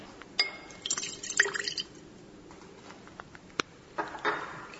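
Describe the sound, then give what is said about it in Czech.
5 ml of water, measured in a graduated cylinder, is poured into a glass container holding weighed sodium acetate trihydrate, with brief splashing and clinking in short bursts, fairly quiet, with no talking. “Sipat ćemo 5 ml vode u naš sud sa odmerenim kriselohidratom.”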